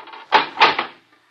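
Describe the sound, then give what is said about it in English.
A heavy door is hauled open in a few short, effortful surges of scraping and creaking, fairly loud, before settling into quiet. “This thing gets heavier every week. Door's not that heavy”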